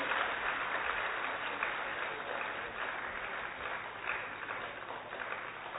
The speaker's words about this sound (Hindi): दिल्ली पटेल नगर से कन्याएं अपना सुंदर स्वागत नृत्य लेकर के आप सबके बीच में आ रहे हैं। तो इन नन्हे मुन्हे कलाकारों का आप तालियों का करतल ध्वनि से उनका उमंग उत्साह बढ़ाते रहेंगे।